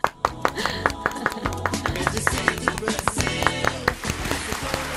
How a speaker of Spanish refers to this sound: Se merece el aplauso. Vale un Potosí. Se merece el aplauso del programa. El aplauso del programa, venga, sí, claro que sí.